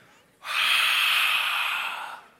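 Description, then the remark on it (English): A voice imitates a single forceful, breathy exhale of a man breathing on people's faces as he goes around a prayer circle, a loud airy whoosh lasting nearly two seconds that starts abruptly and fades slightly at the end, with no other sounds. “and he goes around the entire circle and he just breathes on all of our faces.”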